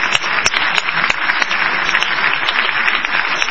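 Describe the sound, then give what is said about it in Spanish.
An audience claps for a guest, steadily, a dense wash of many overlapping hand claps with sharp individual slaps popping out, loud and sustained across the whole stretch with no voices. “Bueno, amigos, y usted, vamos a aplaudir a”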